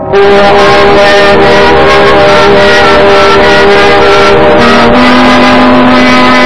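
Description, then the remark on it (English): A bus engine drones loudly and steadily as it drives seven miles to New York, a thick rumbling hum with a slight shift in pitch near the end, with no voices. “So I notified the local police and took a bus to 7 miles to New York.”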